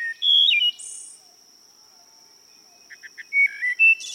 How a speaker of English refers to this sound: shady woodlots will once again echo with the flute-like music of the wood thrush.